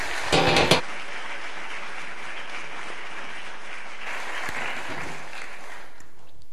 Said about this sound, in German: Und ich denke einfach mal, das ist, glaube ich, mal ein Applaus wert. Und ich denke, der Dank muss mal rüberkommen.